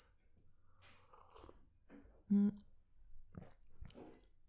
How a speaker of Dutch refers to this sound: Even een slokje van mijn thee.